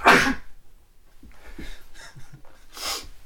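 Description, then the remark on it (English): A loud sneeze bursts out at the start, followed by a few soft breathy sounds and another sharp, sneeze-like burst near the end. No one speaks. “Bless you.”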